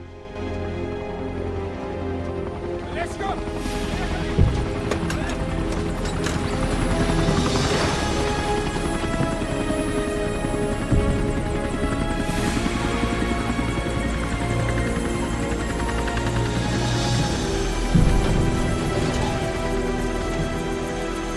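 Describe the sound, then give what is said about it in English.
A helicopter's rotor thrums steadily and loudly throughout, a dense, continuous mechanical roar with whooshing swells as it descends into a dry reservoir and sets down where a van is parked. No voices. “rides in a helicopter down into some kind of dry reservoir where is parked a van containing the other bombs.”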